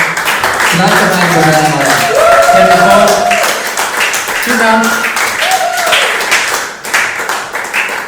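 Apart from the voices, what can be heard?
audience applause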